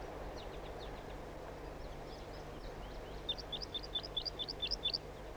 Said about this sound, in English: I just called a wild bird in. Here comes another one. Wild bird. Stop. Flight song.